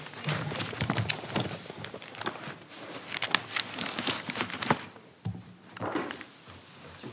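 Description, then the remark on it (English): Papers are gathered and shuffled at the end of a court hearing, a busy run of crisp rustling and soft thumps that briefly quiets near the end before a few more crinkles. “Besides, the weight of the law, there's a lot of paper.”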